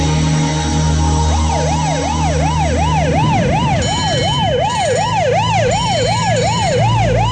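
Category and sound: vehicle, ambulance siren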